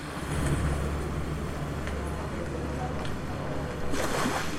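Seawater recorded on the coasts of Europe sloshes and foams against the shore in a continuous rushing wash, played from 24 loudspeakers in an exhibition at the Kunstverein Hannover, with a few louder hissing surges toward the end over a low, steady rumble.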